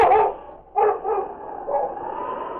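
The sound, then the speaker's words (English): A dog named King raises his head to the sky and howls: a brief rising cry, a short pause, then a long, steady, wavering howl that carries on without any talking. “King raised his head to the sky and howled.”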